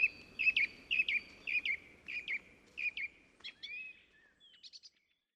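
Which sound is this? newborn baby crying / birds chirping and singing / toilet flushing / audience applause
birds chirping and singing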